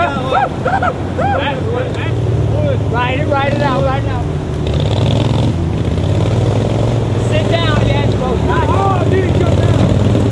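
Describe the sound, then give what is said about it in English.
Steady, loud motorboat engines drone continuously on the Illinois River during a 2011 tournament, with people shouting and talking excitedly over the roar as boaters try to catch leaping Asian carp in their nets. “Boaters cruise the Illinois River and trying to catch Asian carp in their nets.”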